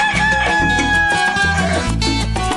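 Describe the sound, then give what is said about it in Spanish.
A rooster named Teófilo crows loudly over a bouncy musical backing with pulsing bass notes, marking 7:01 in the morning on the Cuban show Tempranito y de mañana, the crowing and music filling the whole short stretch with no one talking. “Bueno, son las 7 de la mañana y un minuto en nuestros relojes al cantido del gallo Teófilo.”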